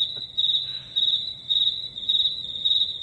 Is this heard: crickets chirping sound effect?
yes